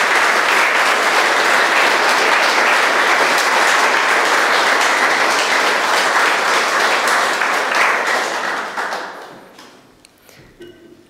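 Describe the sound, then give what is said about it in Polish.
A large audience at a religious service applauds in thanks after the closing blessing, a dense, sustained wash of clapping for about nine seconds, then it quickly thins out and fades to a few scattered claps. “Jeszcze raz oklaskanie podziękujmy.”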